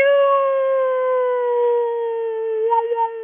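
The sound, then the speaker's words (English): A voice sings along with a siren, holding a long, steady siren-like wail, sliding slightly lower in pitch with a brief wavering near the end, loud, with no other sounds around it. “So say you hear a siren, just sing along with it.”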